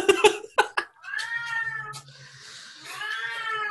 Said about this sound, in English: For new listeners, that's not a small child crying for help. It's a cat. Scary soul. Tormented.